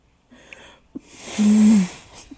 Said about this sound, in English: Oh, I was going to blow my nose too, but okay.